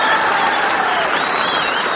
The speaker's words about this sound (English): And I would like Milwaukee to make a large noise in favor of … and the concert in miniatures. Come on, start clapping.